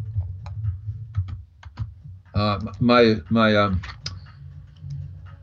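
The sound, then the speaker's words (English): Irregular, light clicks of typing on a computer keyboard over a low background rumble, interrupted midway by a short burst of loud, sustained voice before the tapping resumes. “He's typing.”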